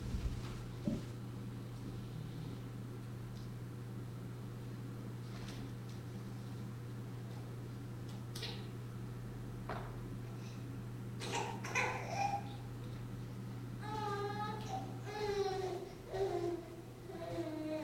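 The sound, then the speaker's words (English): Near the end, a baby babbles in short, rising and falling vocal bursts, over a steady low hum, a quiet background and a few scattered soft clicks and thumps. “The baby.”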